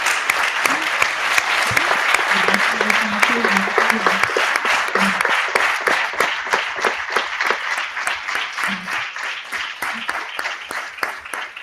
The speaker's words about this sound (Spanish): Yo creo que se merece un aplauso y todo nuestro cariño.